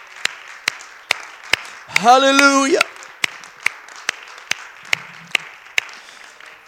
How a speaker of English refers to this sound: Why don't you clap your hands in the Lord? Hallelujah.